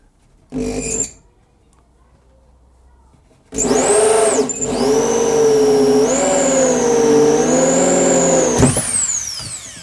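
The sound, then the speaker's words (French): A brief power drill burst, a pause, then a sustained whining drill with harmonic tones that shift in pitch as the hole saw bites and grinds a 2.5 cm hole through a wooden board for several seconds, ending abruptly. “je vais pouvoir délicatement appuyer sur ma gâchette de ma perceuse et commencer à découper un trou donc de 2,5 cm dans ma planche.”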